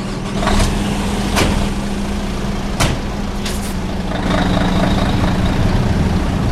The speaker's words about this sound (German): der ist mit einem 26-Tonner vorgefahren. Den Brummi schauen wir uns genauer an.